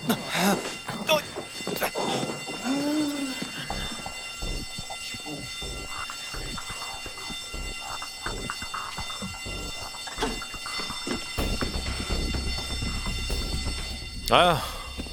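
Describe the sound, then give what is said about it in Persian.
A fire alarm rings with steady, high-pitched electronic tones that persist through the whole stretch, mixed with voices and some clattering movement. “مثل اینکه آتیش سوزی شده.”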